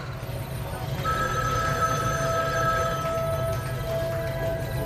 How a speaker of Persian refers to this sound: صدای چیه؟ یه تلفن قدیمیه.